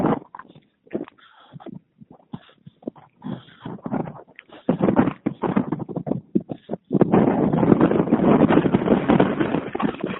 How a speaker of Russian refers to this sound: Там ветер на улице, лапонька. Да, ветер. Ну, все равно на улице тепло.